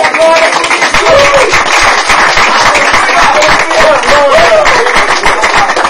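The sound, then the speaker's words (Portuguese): A church audience claps steadily and loudly for about six seconds, applauding the King of Glory, a dense, even wash of many hands with a few faint voices calling out underneath. “Aplauda ao Rei de Glória por isso.”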